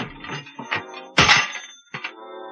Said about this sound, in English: Well, before I try, I'm going to rip something off. No, not your head. Just the telephone.